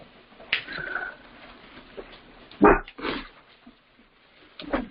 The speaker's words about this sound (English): That in dog speak is amen.